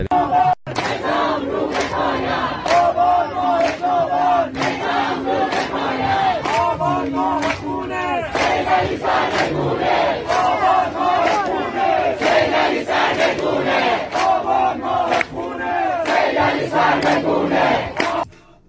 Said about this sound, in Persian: این شعار آب امسال سال خونه، امسال یعنی اصلا، یعنی تا چند ماه دیگه بعد جمهوری اسلامی سرنگون بشه، این چیزیه که مردم دارن فریاد میزنن.